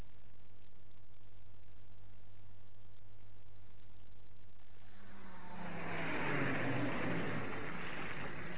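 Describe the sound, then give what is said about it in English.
Over a low steady hum and a wash of heavy rain, a car engine swells in, growing loud before pulling up and idling to a stop. “Oh, thank heavens you came along. Did your car break down?”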